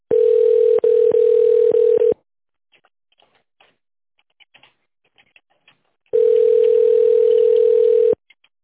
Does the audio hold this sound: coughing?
no